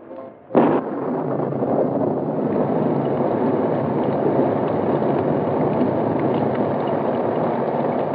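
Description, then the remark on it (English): A steady downpour of rain hisses and patters continuously over the Black Beauty car at a roadhouse in darkness, dense and even in loudness, after a brief sharp burst of noise at the start. No voices are heard. “Inside the roadhouse, a steady downpour covered the black beauty as Britt Reed and Cato waited in the rain-drenched darkness.”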